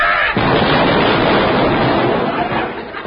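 A loud, dense roar of naval gunfire and explosions, a sound effect, fills the whole stretch, a continuous rumbling barrage with no pauses and no voices.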